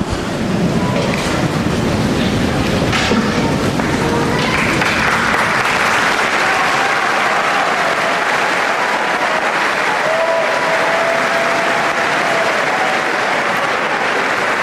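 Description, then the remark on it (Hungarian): Pilgrims in the Paul VI Audience Hall applaud Pope Francis's blessing and teaching: a large crowd applauds steadily, a dense, continuous roar of clapping that stays loud throughout with a faint murmur of voices underneath. “Ismét tapssal köszönik meg a hatodik pálteremben jelenlevő zarándokok Ferenc pápa áldását és az ő tanítását.”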